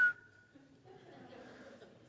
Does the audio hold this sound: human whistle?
yes